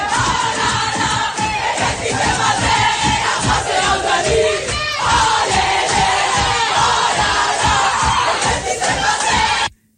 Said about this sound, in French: Alors, évidemment, dans le vestiaire après la rencontre hier soir, c'était la folie et la libération.